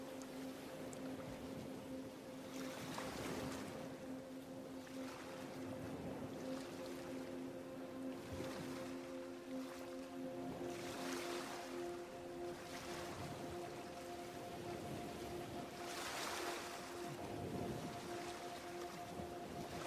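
nature, ocean waves

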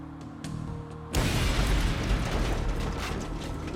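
sound effect, bomb explosion

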